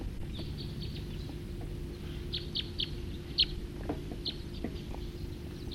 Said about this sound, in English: Stop. I have two birds arriving.